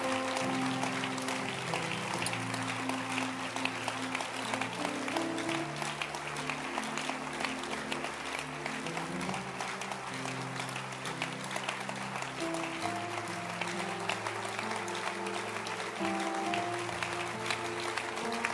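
A church audience claps steadily for about eighteen seconds to bless God, a dense, continuous patter of many hands, with sustained instrumental notes shifting pitch underneath.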